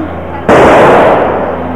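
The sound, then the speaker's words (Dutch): A single loud bang from a strike-ignited firecracker goes off suddenly, followed by a long, noisy rumbling tail that slowly fades, with faint crowd voices in the background. “Ja, met die strijker zo.”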